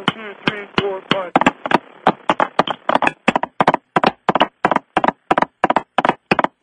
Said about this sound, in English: You don't need to have a knock on that thing every time you blow it. Well, it sounded like a horse hoof. It's like a Western or something.